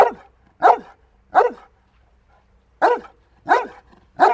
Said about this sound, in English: Both of these dogs are making the exact same sound. They're barking. But the vocal quality of the barks easily gives away the size of the dog.